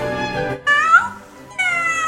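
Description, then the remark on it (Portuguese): A cat meows three times in quick succession, loud, the middle call bending up and down in pitch, with no one talking. “Diz o gato:”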